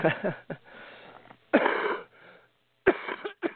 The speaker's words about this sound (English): Excuse me. But, you know, like I said, I tried to keep my coughing down to a minimum trying to do this show. But my voice isn't that great.